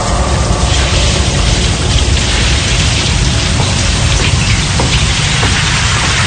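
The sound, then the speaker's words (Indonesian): Someone bathing inside a WC (toilet room), with a steady, loud rush of splashing and pouring water that continues without pause for the whole stretch. No voices are heard. “Suara seperti orang sedang mandi.”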